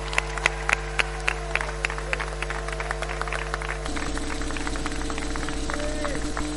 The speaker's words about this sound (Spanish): Um aplauso!